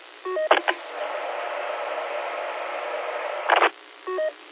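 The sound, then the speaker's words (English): A radio transmitter keyed with no voice, an unmodulated carrier (dead key) sent as a test after adjusting mic gain: a steady, even hiss lasting about three seconds, bracketed by brief crackling bursts and short electronic beep tones at the start and end. “Give you a few seconds of dead key, too.”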